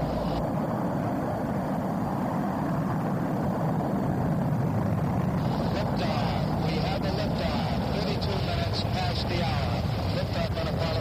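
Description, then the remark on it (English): The engines of the Apollo 11 rocket roar continuously at liftoff on July 16, 1969, carrying three American astronauts, a loud, steady, crackling rumble filling the whole clip and growing slightly harsher partway through, with no pauses. “On July 16, 1969, three American astronauts lifted off in Apollo 11.”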